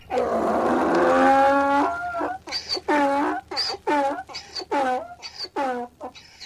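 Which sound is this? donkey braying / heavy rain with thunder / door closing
donkey braying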